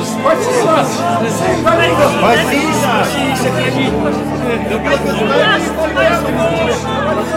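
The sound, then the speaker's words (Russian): A large crowd in Jerusalem shouts joyfully as Jesus rides into the city on a donkey, overlapping excited voices and cries, a dense, steady roar of many people calling out at once, loud throughout. “Иисус въезжал в Иерусалим, сидя на осле, под радостные крики толпы.”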